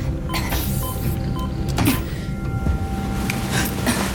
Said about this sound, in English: the hatch door is jammed shut. The controls aren't responding.